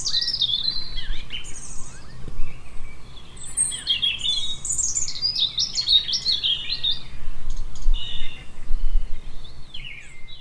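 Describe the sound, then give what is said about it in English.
Busy, overlapping birdsong fills the scene, several birds chirping and trilling in bright, rapid phrases over a steady low outdoor hum, with no one speaking. “And so, to the sound of warbirds, here's Tom with some things to be getting on with in the garden.”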